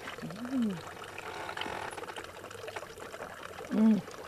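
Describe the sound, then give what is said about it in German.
Fresh spring water pours steadily into a trough on an alpine pasture, a continuous splashing stream, with a couple of brief voiced sounds rising over it near the start and end. “Am Trog stille ich meinen Durst mit frischem Quellwasser.”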